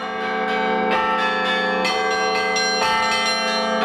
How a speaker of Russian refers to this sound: Именно в селе Большие Аты возродился первый храм. Отец Антоний и Павел Умнов услышали звук его колокола.